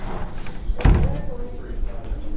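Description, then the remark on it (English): A glass door swings and closes with a single solid thud, followed by a brief rattle, while indistinct background voices and room noise continue throughout. “Walk back through the glass doors on your left.”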